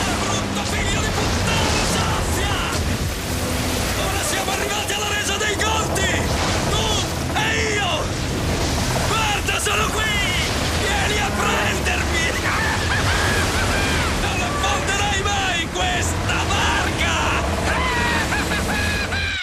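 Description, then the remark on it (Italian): A storm at sea batters a boat, roaring without pause, crashing waves and howling wind forming a loud, dense wall of noise for the whole stretch, with shouting voices breaking through now and then. “E questa la chiami una tempesta!”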